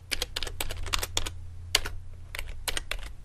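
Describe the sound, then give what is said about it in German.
Rapid, irregular clicking of keys on a computer keyboard as someone types a search for "Knickerbocker" on an outdoor clothing website, bursts of sharp taps with brief pauses, over a low steady hum; no one speaks. “Ich befinde mich auf einer populären Website, die trendige Artikel für Outdoor-Bekleidung verkauft, und gebe ein Knickerbocker, geschrieben Knickerbocker.”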